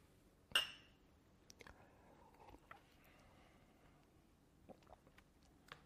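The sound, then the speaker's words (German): A single bright clink of drinking glasses touched together as drinkers toast again rings out clear, then fades, followed by quiet small knocks and faint background murmur. “Lass uns nochmal anstoßen.”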